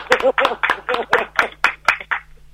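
Rhythmic clapping, about nine sharp, evenly spaced claps in quick succession, with voices sounding underneath throughout.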